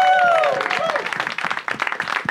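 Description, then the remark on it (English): An audience at the Dynasty Typewriter venue bursts into steady, dense applause lasting a couple of seconds, with a high cheer or whoop rising over the clapping at the start before settling into continuous clapping. “Let's hear it for Dynasty Typewriter.”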